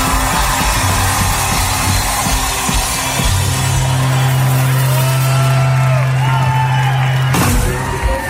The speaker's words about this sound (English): Thank you for everybody for being so nice about hearing that darn song for the last time. That's why they're clapping so hard, by the way. It's over, finally, thank God.